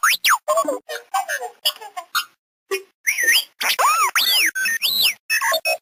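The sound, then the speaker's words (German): R2-D2, the robot droid from Star Wars, chatters in squeaky electronic beeps and whistles, rapid high chirps sweeping up and down in pitch, delivered in quick bursts with a brief pause midway, no voices. “Ja, das charakteristische Quietschen kennt man ja vielleicht. Das war R2-D2 aus Star Wars.”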